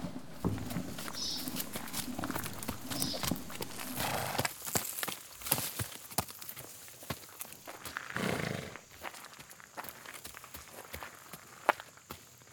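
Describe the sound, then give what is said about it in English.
Steady donkey hooves clip-clop along at a walking pace, a series of sharp taps repeating over a soft outdoor background, with no voices. A woman holding a baby rides the donkey on the road to Jerusalem while two people walk alongside. “Mary rode the donkey, the baby in her arms, while Joseph and I walked alongside.”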